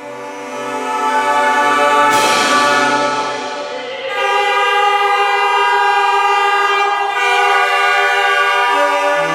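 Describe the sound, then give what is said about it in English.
Loud, sustained nasal horn tones from a Charlemagne, a narrow, stubby-bodied trumpet with several openings in the front, blare in buzzing, reedy chords with factory sirens, shifting pitch a few times, with a brief harsh rush near the start. No one speaks. “Are the sounds of the Charlemagne and factory sirens echoing the history of the Berlin Bank?”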